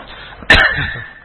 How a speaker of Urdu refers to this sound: اور دعا فرمائے میری کھانسی کے لیے. اللہ اس کو جھانسی بھیج دے. شفا اللہ تعالیٰ تعالیٰ فرما دے.